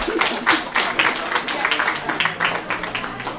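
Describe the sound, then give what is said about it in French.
An audience breaks into applause: dense, overlapping hand claps form a steady, crackling wash of sound that holds at a fairly even loudness for a few seconds. “On peut l'applaudir.”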